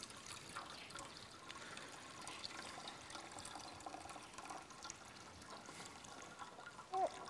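During a baptism service, a child pours water into a baptismal font: steady trickling and pouring, a soft continuous splashing that stays fairly quiet throughout, with a brief louder splash near the end.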